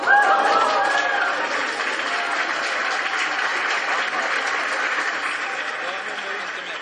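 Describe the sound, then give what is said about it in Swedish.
Sustained, dense applause from a crowd in Stockholm and at Malmö City Library as the Swedish Academy announces the 2007 Nobel Prize in Literature for Doris Lessing, with surprised exclamations and excited voices rising out of the clapping, especially near the start. “Applåder och förvånade utrop både i Stockholm och på Malmö stadsbibliotek.”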